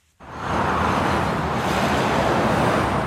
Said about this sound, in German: Ein stetiger Strom von Autos wälzt sich über die David-Benvenisti-Schnellstraße. Sie trennt den arabisch-israelischen Stadtteil Beit Safafa in Ostjerusalem von einer jüdischen Nachbarschaft und dem Teddy College Sportstadion.